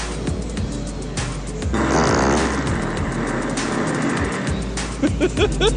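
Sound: farts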